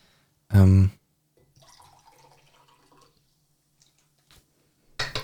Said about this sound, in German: So, hat man es gehört, wie ich Wasser eingeschenkt habe? Ich glaube nicht, oder? Ich hoffe nicht, das müssen wir sonst rausschneiden.